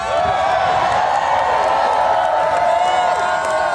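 A large crowd at a show roars and cheers without a break during a performer's pre-show act, with whoops and shouts rising over a steady wash of clapping, loud and dense throughout.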